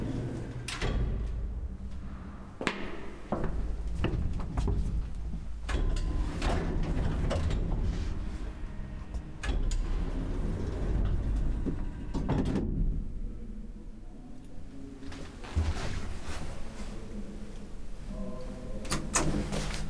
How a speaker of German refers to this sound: Rechts hinter der Glastür ist ein Fahrstuhl. Benutze ihn und fahre in das Erdgeschoss.